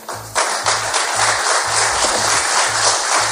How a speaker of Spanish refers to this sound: Ese es el aplauso que se ha escuchado en la sala donde se ha firmado el acuerdo que va a permitir desbloquear esos 22 millones de toneladas de trigo que siguen en territorio ucraniano.